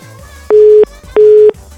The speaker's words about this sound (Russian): Слышишь, как гудки? Криво, это ваша тупая версия, что если гудки, то это городской телефон. Что за гудки заняты, как городской телефон.